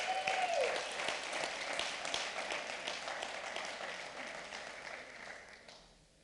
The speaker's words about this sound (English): Who can give God a clap of praise for that?